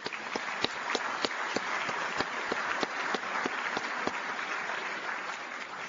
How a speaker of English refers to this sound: Now please join me in giving all of them and all of the judges in the room a round of applause.